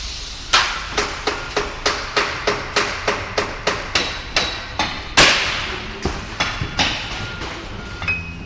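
Steady, rhythmic hammer blows ring out as roofers in Paris shape and nail rectangular slates against an anvil, about a dozen sharp metallic taps spaced evenly, fairly loud, with one heavier strike midway and no talking.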